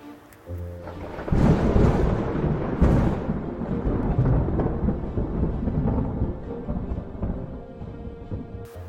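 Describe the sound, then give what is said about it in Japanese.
A loud, deep rumble of thunder in a forest rolls in after a quiet moment, swelling into a long, booming roar with crackling peaks that slowly fades, accompanied by a faint wash of rain. “小さな妖精たちはあまりの雷の音に震えていました。”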